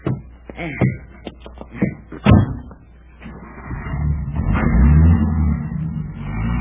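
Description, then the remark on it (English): A sharp car door slam rings out near the start among a few clunks as people get into the car, then an engine rumbles up and the car pulls away, its low drone building steadily. “Well, we're off.”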